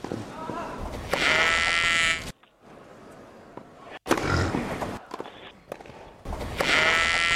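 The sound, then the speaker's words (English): A person mimics a sheep with drawn-out, wavering bleats, repeated three times with short pauses between, loud and nasal with a quavering tremble. “No, it's a pig and a sheep.”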